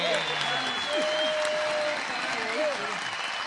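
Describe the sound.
Steady audience applause for an online contestant of the show Shangool.com fills the whole stretch, a dense wash of clapping with a few voices and whoops rising faintly above it.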